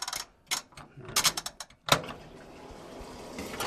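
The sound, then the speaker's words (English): A few sharp mechanical clicks and ratcheting sounds, like a dial being turned, then a washing machine in a narrow hallway at the back of a house kicks on for a load of laundry with a steady, low rumbling hum that continues. “a narrow hallway at the back of the house with a washer and dryer. Just so happened to need to do a load.”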